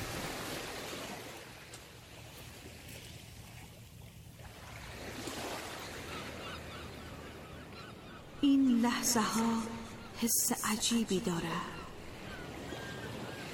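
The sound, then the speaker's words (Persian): Steady washing of blue Pacific Ocean waves and water slapping around a boat fills the scene, a broad rushing noise that continues throughout, while a voice speaks briefly over it near the end. “حس سوار شدن بر قایق قنوت روی موج‌های آبی اقیانوس آرام”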